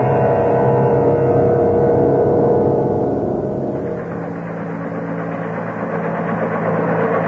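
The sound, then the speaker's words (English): A craft's helicopter rotor system, activated before re-entry so it can hover and look over the landing ground, whirs up with a loud, steady mechanical drone and low hum, shifting tone midway as it settles into an even hovering roar. No one speaks. “Well, before we head in for actual re-entry, we activate the helicopter system.”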